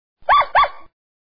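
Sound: dogs barking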